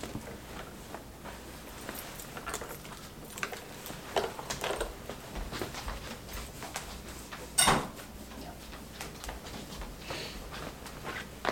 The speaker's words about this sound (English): The fridge is open.